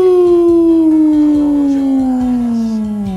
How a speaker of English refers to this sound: All the dogs started barking.